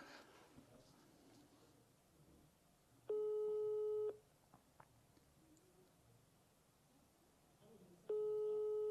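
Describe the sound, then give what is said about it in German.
A telephone ringing tone of an outgoing call to a sales lead sounds twice, each a steady, buzzy electronic tone lasting about a second, separated by several seconds of quiet background noise. “Okay, zweimal, das hat jetzt zu lange geklingelt.”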